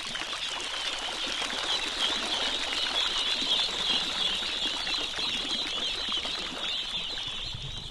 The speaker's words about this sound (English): The ducklings hop and tumble out of the bins at the edge of the rice paddy. The ducks are swimming for the first time. One older mallard is with them, showing them how, but mostly they're just trying to get out of each other's way.